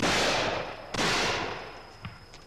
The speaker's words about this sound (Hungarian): Hallottad, anyám? Megint két lövés. Hogy mi volt ez? Vadászok lövöldöznek oda át gyermekem.